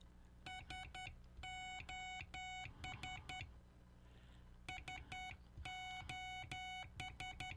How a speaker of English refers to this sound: he was very proficient in the Morse code, or International Morse Code, as it's called. Now, in later years, here's SOS.